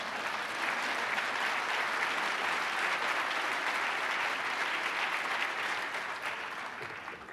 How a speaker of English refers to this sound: I don't know why only one person would clap for that.